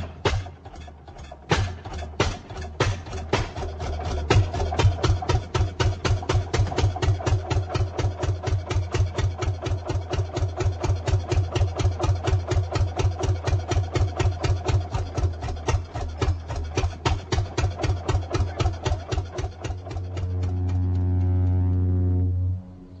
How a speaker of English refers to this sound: Then, in the fall, the wood sawyer would be called in to cut the wood to furnace or fireplace lengths. He'd arrive with his horse-drawn wagon, which sported a wood cradle and a belt-driven saw powered by a one-cylinder Fairbanks Morse engine.